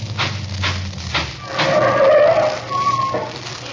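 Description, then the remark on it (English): A car engine rumbles, then tires let out a drawn-out, wavering squeal as the vehicle skids to a halt, fairly loud, with no voices. “I'm stopping here for a minute.”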